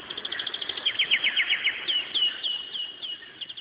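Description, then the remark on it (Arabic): A flock of doves calls in a busy, overlapping stream of quick, high chirps, steady and moderately loud throughout, with no voices. “عن سرب طير سارب من الحمام الراعب بكر يوما سحرا وسار حتى أصحرا في طلب المعاش”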